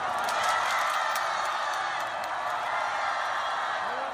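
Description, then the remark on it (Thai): A large crowd of North Korean cheerleaders and South Korean fans cheers continuously for the joint Korean women's ice hockey team at the Winter Olympics, a dense wall of shouting voices with scattered whoops. It's loud and steady throughout, with no single voice standing out. “ในวันพุธคณะเชียร์ลีดเดอร์เกาหลีเหนือและกองเชียร์ชาวเกาหลีใต้ได้ร่วมกันส่งเสียงเชียร์ทีมฮอกกี้หญิงของสองประเทศที่ลงแข่งขันภายใต้ธงชาติเดียวกันคือธงรวมประเทศ”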